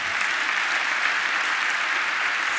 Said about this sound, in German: Vielen, vielen Dank für deinen Vortrag und ich glaube, das ist dein Applaus.